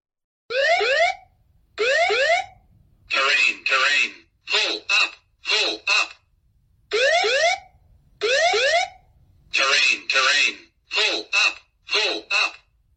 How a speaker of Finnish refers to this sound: Matkustajat huutavat, kapteeni huutaa, lennon johto yrittää saada yhteyttä ohjaamoon, jonka viimeinenkin hälytys on nyt aktivoitunut.